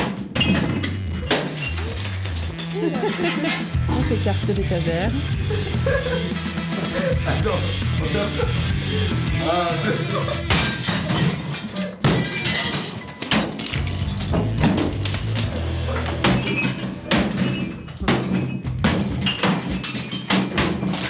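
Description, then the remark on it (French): A table set with plates and glasses, along with other furniture, is smashed with a bat and a crowbar: loud, rapid crashes and thuds with splintering and shattering glass, continuous for about twenty seconds, with a voice speaking briefly amid the din. “Vous avez explosé la table.”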